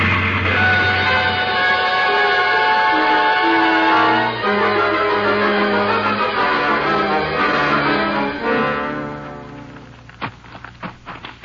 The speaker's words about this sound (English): Now there's the engine, Jace. Sure is a straining up that hill.